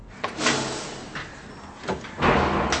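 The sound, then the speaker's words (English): A door slides open with a few dry scraping surges, a short rumble near the start and a louder, sustained grinding sweep at the end, with no voices. “That door hasn't been opened in... It's open.”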